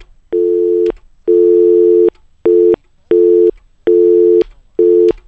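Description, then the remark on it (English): A loud electronic telephone line tone pulses on and off six times in a steady, slightly uneven rhythm, each buzzy beep lasting about half a second, with no voices, as the phone lines are checked to see if they are open. “So, the phone lines, let me just double check the phone lines, see if they're open.”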